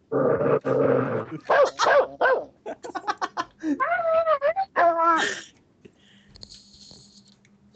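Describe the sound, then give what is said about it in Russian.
A dog growls and snarls, with short rough outbursts followed by higher, wavering whine-like vocalizations, then the sound fades into a faint, quiet background. “Собака, пес.”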